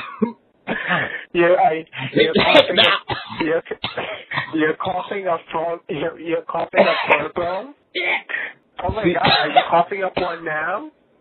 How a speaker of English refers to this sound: You're coughing up one now?